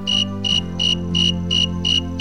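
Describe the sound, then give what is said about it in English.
A snowy tree cricket sings alone in a steady, evenly spaced series of clear, high-pitched chirps, about three per second, fairly loud, over a faint low background hum. “The song of the snowy tree cricket is probably among the most conspicuous and musical.”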